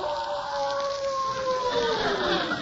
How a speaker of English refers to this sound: Wolves? Yes, but they won't attack you unless they're hungry. That one doesn't sound like he just finished eating at Lindy's, does he?